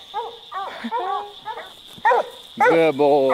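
A hunting dog gives a quick run of sharp, yelping barks, then breaks into a louder, drawn-out bay near the end, with a steady high-pitched whine running underneath throughout.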